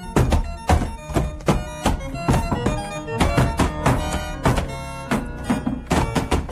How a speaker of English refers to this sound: I had to act to save Miss Goddard, so in a wild frenzy I started to batter the door with all the strength I could muster.